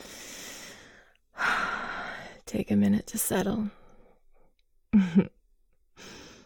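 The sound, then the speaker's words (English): Heavy, fast breathing comes in several long, rushing breaths, with a voice speaking softly in the gaps between them. “You're breathing a little bit fast.”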